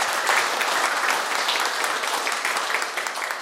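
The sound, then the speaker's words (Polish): An audience claps steadily, a dense, even wash of many hands applauding at a constant moderately loud level with no voices standing out. “Ale te oklaski są naprawdę dla pana Piotra, bo gdyby on tutaj nie przyjechał, to ja bym też tutaj nie przyszedł.”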